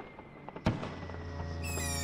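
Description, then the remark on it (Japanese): A single sharp, loud firework boom bursts out over a steady low rumble of background noise, and a bright high-pitched tone joins shortly before the end. “なんかなんだ防空壕誰も入らんごたるって花火よ。爆撃だろうが今の。”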